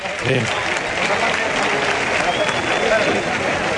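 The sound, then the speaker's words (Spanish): A large crowd at the bullring in Huelva gives a sustained ovation to bullfighter Talavante by the cuadrillas gate, dense applause and cheering filling the space evenly throughout, with a voice faintly audible beneath the clapping. “También está recogiendo la ovación del público que está por la zona allí de cuadrillas.”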